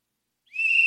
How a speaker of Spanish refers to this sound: Silbato.